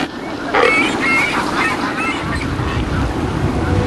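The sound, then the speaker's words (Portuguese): A noisy cormorant breeding colony in Bahrain during the breeding season, with many overlapping hoarse, honking calls rising and falling over a steady rumble, fairly loud throughout. “Colônias bem-sucedidas como esta no Bahrein podem ter milhares de animais.”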